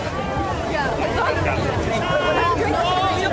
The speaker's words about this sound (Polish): Czyli mamy tłumy, wchodzimy przez bramę. Yeah, that was the scene as it all started off today. One of the biggest music festivals in the country.